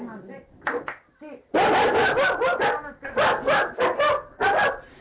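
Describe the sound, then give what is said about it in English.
A dog barks aggressively, a couple of short yaps followed by a loud, rapid volley of rough, harsh barks that continues to the end without pause. “That's her dog having a go at your Doberman sprinkles.”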